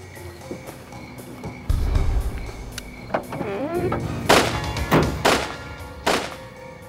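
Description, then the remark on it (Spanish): A burst of repeated gunshots as two boys are shot in the face: four sharp, loud bangs fired in quick, slightly uneven succession, following a dull thud and a short rising squeal, with no one speaking. “Les disparó a ambos chicos en la cara repetidas veces.”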